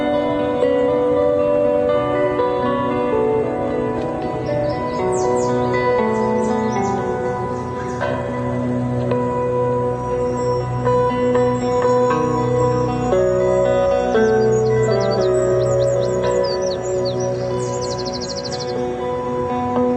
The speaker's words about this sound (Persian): یعنی واضحه که به این پرنده علاقه‌مند شد. بله، این یه پرنده خاصه.